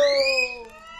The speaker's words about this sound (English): Hey, boy, blow that whistle and let's take off.